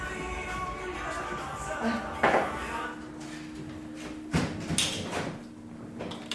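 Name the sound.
door being closed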